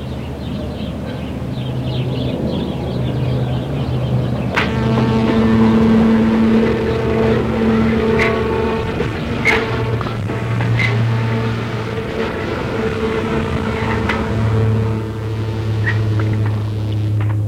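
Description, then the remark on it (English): A wheelchair's steady electric motor whine hums with shifting low tones, with occasional clicks and brief sharp ticks over a continuous mechanical drone. “that's my chair making those noises at the moment.”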